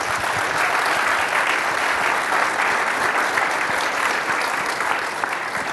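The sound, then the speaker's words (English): Steady applause from a conference panel audience for several seconds, given to the panel's guests at the end of the session, a dense, even patter of many hands clapping at a constant loudness with no voices over it. “Can we please give them a round of applause?”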